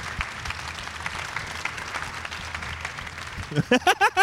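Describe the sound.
An audience breaks into sustained applause for a man giving away his leather jacket, a dense wash of clapping that holds steady for several seconds, then a voice speaks over the end in loud, rising bursts.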